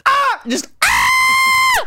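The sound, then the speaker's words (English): A voice lets out a loud, high-pitched shriek, a brief cry and then a longer sustained wail that holds steady before dropping off, imitating an intro yell. It is very loud. “It used to be, I used to have a different voice. Just a shriek.”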